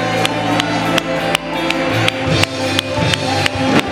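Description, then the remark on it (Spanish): A crowd claps in unison, steady sharp beats about twice a second, ringing over loud sustained music with a droning, tonal backing throughout. “Una sus manos y dele palmas.”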